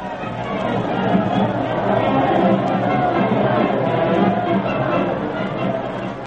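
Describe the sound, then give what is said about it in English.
A dense, steady murmur of many voices chattering at once, a large crowd in a racetrack grandstand before a horse race, filling the space evenly without any single voice standing out. “Colorful crowd, hmm?”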